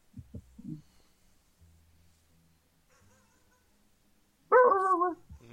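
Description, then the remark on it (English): A pet dog gives a few soft, muffled woofs, then after a quiet stretch lets out one loud, harmonic bark with a whiny edge. “You can hear my dog.”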